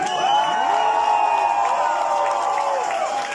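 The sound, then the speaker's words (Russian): A large crowd cheers and whoops steadily for the whole stretch, many high voices overlapping in sustained, gliding shouts, loud and unbroken with a dense wash of noise beneath, an audience at a live performance. “и сейчас вот просто слышу, как вы поете вместе со мной, это непередаваемое ощущение, так что я вам хлопаю.”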